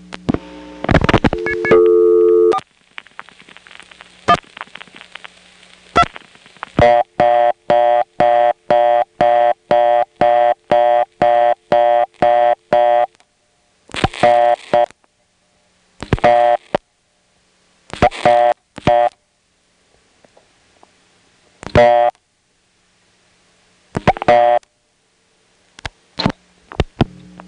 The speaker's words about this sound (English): Well, what do you know? Yes, the reorder came from the touchtone converter itself, and you can actually tell because from the selectors it sounds like this. On the touchtone converter it still sounds steppy, but not quite as steppy.